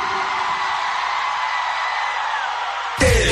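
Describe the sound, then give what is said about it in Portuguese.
A large crowd raises hands, shouts and cheers in a dense, sustained roar that stays loud and steady throughout, with a burst of louder noise right at the end. “Quem gostou, levanta a mão lá em cima e grita.”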